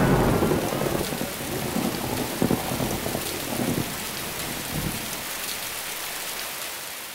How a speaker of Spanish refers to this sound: Parece que es una tormenta.